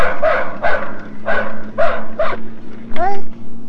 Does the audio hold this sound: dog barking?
yes